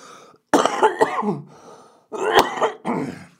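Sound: cough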